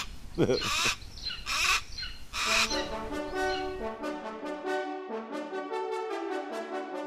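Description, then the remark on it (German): A golden eagle calling: a few loud harsh cries at first, then a long monotonous run of rapid, high-pitched yelping notes repeating at a steady pace. “Das Rufen, dieses ewige Gleich, das Monotone, das wird ganz schön nervig.”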